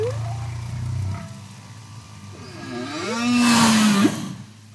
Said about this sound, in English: But what's really cool is that recordings and different recordings of different whale themes recorded in 2016 and 2018 in French Polynesia actually match the song themes sung in 2018 in Ecuadorian waters.